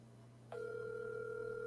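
A steady electronic ringing tone of an outgoing phone call switches on about a third of the way in and holds evenly to the end, over a low constant hum.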